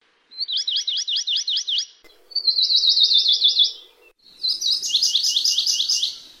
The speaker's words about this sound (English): Amakihi's trill is simpler, usually 6 to 8 notes, often dropping once in pitch.